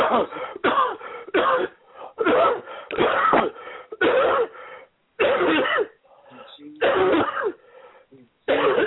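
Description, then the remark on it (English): During a prayer, several people are told to cough out spirits. They cough deeply and forcefully in a rapid series of loud, rough, overlapping bursts with brief gaps between them, some sounding like harsh throat clearing. “Now, take a deep cough and cough them all out.”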